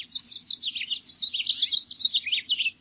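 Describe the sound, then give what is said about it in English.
A house finch sings a rapid, warbling song of bright, tumbling notes that runs continuously for a few seconds, clear, with a faint low hum in the background. “Rapid evolution of house finches reminds us that evolutionary changes are occurring visibly all around us.”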